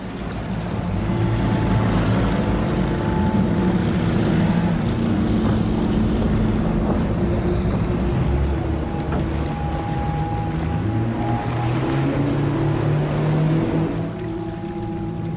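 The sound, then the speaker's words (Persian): A boat's engine drones steadily and loudly throughout as it motors against the current, with water rushing and splashing against the hull and some wind noise, no voices present. “خیلی خوب، برخلاف جریان میریم.”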